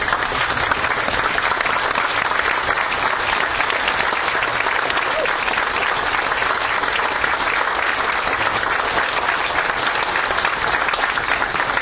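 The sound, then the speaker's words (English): An audience in Bossier stands and applauds first responders (police officers, firefighters): a dense, even wash of clapping that holds at a steady loudness for about twelve seconds without fading. “Could you stand and give them a round of applause, please?”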